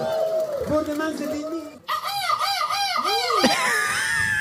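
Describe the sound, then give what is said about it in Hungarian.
A person vocally imitates a bird call, more rooster than seagull: a strained, nasal voice breaks into a quick series of about five rising-and-falling squawks, loud and alone. “Sirályokat imitálok. Az én vagyok az index képek. Ez inkább kakas ilyen.”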